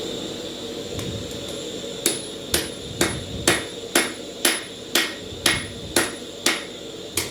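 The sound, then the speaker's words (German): A gas-fired forge at 950 degrees roars steadily in a blacksmith's workshop; after a couple of seconds, about eleven sharp, ringing hammer blows fall in an even rhythm over the continuous hiss. “Die gasbetriebene Esse faucht mit 950 Grad heißem Atem.”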